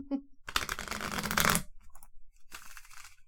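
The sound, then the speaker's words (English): A deck of playing cards being riffle-shuffled, a dense rapid fluttering burst lasting about a second, followed by a brief pause and a softer second flurry of cards. “Apparently I can't make an audio and shuffle cards at the same time.”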